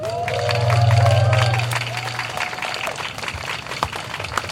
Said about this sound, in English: So seeing all of you here, resilient, badasses, makes me so emotional and happy. An applause for you, please.